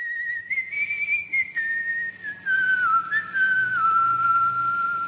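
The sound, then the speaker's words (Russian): Actor Claude Dauphin whistles a slow, steady melody alone, the call sign of the underground French radio station Radio Rodina during the Nazi occupation: long sustained tones gliding gradually downward in pitch, clear with a faint low hum underneath. “Этот свист не просто свист. Это позывные подпольной французской радиостанции «Радио Родина», действовавшей во время нацистской оккупации.”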